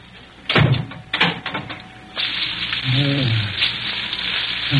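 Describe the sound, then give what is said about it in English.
An animal shifts about in straw: a few sharp, crackly rustles, then a steady, scratchy shuffling that keeps going, with a brief low voice-like grunt partway through. “How can a bloke get any sleep with that there animile fidgeting about like that?”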